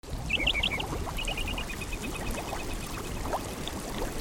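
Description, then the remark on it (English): A small hot spring in Yellowstone National Park bubbles and gurgles steadily as it percolates into the Yellowstone River, a continuous churning, with a few high bird chirps in a quick series near the start. “This small hot spring percolates right into the Yellowstone River.”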